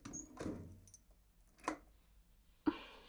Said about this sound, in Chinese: 这都快12点了，您看看你，连拿钥匙开门这点小事都做不好了。